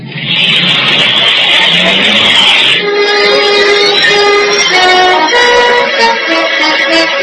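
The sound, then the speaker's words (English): A hot-wired, fully fuelled speedboat engine roars to life with a burst of loud, rushing noise, then settles into a throaty motor whose pitch climbs and steps upward as it revs, steady throughout. “You sure you can drive one of these things? Yeah, it's just like a car.”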